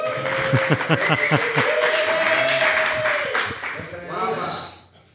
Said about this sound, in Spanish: Hola a todos, bienvenidos un año más a nuestro tradicional directo en el Festival Internacional de Juegos de Mesa de Córdoba. Contamos con un nutrido y selecto público, que se note, que aplaudan.